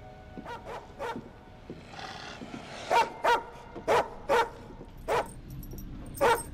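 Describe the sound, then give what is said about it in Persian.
A neighbour's dog barks repeatedly, sharp loud barks in uneven bursts, some faster pairs, with a faint background hum and no talking. “اون قبل از سگ خیلی آرومی بود.”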